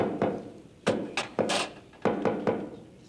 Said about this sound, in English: Oh, that knock is getting so popular, pretty soon it's gonna be in the top 40.